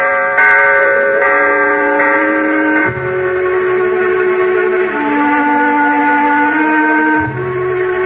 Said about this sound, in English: Well, this is it, my friend. That bell is tolling for us.